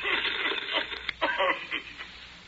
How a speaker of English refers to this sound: I hear voices behind you. Sounds like interference.